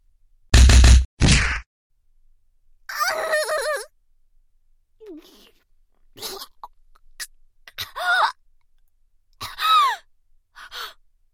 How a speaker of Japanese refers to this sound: クリプトニアで弱った体には私のパンチは効くでしょ。